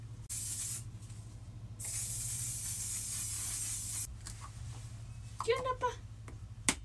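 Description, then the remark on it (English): Two long hissing spritzes of a makeup setting spray bottle, one right after the other, followed by a brief voice speaking over a low background hum. “Setting spray time.”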